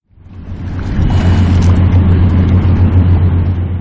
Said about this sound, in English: The sound of an Ohio River barge in Pittsburgh, where the Allegheny and Monongahela rivers converged to form the Ohio, underscores the commercial and industrial role of the Ohio and its tributaries, which comprise over 2,800 miles of navigable